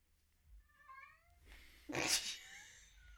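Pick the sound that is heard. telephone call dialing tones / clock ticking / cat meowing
cat meowing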